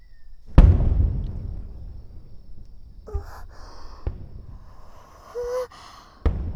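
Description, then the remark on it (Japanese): Fireworks burst with one loud, deep boom that rumbles away slowly, followed by a few sharper, fainter pops scattered over the next several seconds. No one speaks. “花火だ。あ、すごい、綺麗。”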